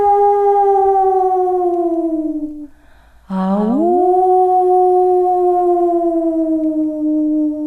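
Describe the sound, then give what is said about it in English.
A coyote's long, loud howl slowly slides downward, breaks off briefly, then swoops back up into another sustained, wavering howl, with no talking. “And so it is, every single night, in the plains, on the desert, or in the mountains, wherever Coyote lives, every night he sings.”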